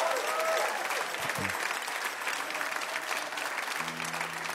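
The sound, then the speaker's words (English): An audience claps for the performing artists at a Radio Live show, a production of WUWF Public Media at the University of West Florida. A dense, sustained wash of applause stays loud throughout, with a few low voice-like murmurs and a brief hum near the end. “How about a big round of applause for all of our great artists tonight?”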